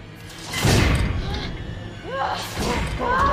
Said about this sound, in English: The cell block goes dark and emergency lights come on. All around them, doors start sealing shut.